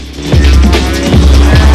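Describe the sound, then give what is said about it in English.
A car engine roars and revs hard, its pitch rising and dipping in repeated surges while the wheels spin with a gritty hiss before gripping, as the car takes a run at a bridge. No voices are heard. “guns the engine. The wheels spin,”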